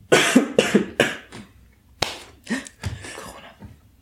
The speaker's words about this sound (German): Fuck, ich muss husten.